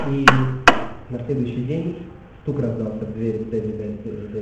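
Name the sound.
knock on a door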